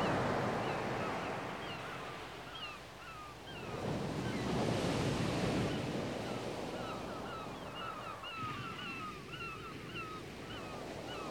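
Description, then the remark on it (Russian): Sea waves wash in steadily with a broad, rushing roar that swells around the middle, while many small birds chirp and call brightly over the surf. “Сейчас, под шум морских волн, устройтесь поудобнее, лежа или полулежа.”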